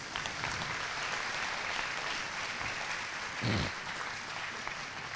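A church audience applauds a singer after the hymn "Blessed Jesus", a dense, continuous patter of many hands clapping at an even level, with a brief swell of louder clapping near the end.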